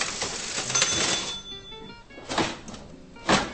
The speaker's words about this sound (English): The large metal till at U Salvatora is the kind of contraption one would normally find in a museum, with a handle and keys similar to those on an old typewriter.